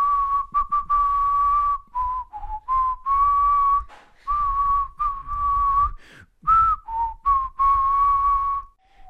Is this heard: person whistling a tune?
yes